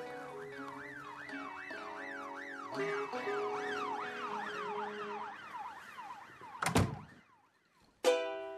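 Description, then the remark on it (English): Several police sirens wail together as a group of squad cars race up the road, rapid rising-and-falling tones layered over one another, then a sharp thump and a burst of noise near the end. No one speaks. “As we walk into the house, a rake of squad cars goes flying up the road.”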